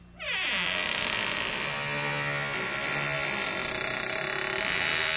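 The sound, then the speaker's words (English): A creaking door groans steadily for about five seconds, a loud, buzzy, harmonic creak whose pitch drifts slowly up and down, with no voices over it. “And this is what a creaking door sounds like.”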